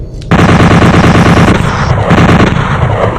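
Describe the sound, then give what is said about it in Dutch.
An automatic bolt gun fires a rapid, unbroken stream of loud, harsh shots that starts abruptly and rattles on for about three seconds with no voices. “Let's use the automatic bolt gun.”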